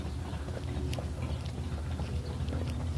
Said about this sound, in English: Guy tuning his motorcycle.